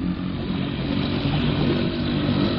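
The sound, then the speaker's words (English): An outboard motorboat engine drones steadily, a loud continuous rumble with a buzzing, throaty texture that holds even throughout, with no voices over it. “I'll give her the gun a little and then pull up the motor so we don't foul the propeller”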